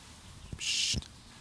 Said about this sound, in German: Nein, hallo, die Vögel machen aber mit. Meinst du nicht? Warte. Das sind unsere Podcast-Gäste. Warte.